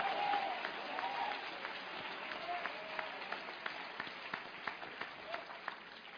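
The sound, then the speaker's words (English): An audience applauds steadily for several seconds in thanks, many hands clapping in a dense, even patter with a few sharper individual claps standing out. “Stop being proud and clap your hands for 5 seconds and thank him for something.”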